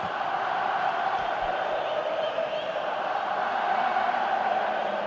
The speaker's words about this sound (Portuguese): Olha o barulho que faz o torcedor do Vasco, hein? Tá empurrando a torcida Cruz Maltina, mas o tempo tá passando.